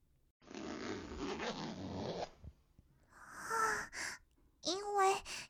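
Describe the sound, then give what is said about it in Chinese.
The chest zipper of a top is unzipped inside a car in one steady pull lasting about two seconds, followed by soft, breathy vocal sounds from a person. “因为今天要来见你，所以特地穿了胸口是拉链的衣服，只要拉开就可以露出来了。”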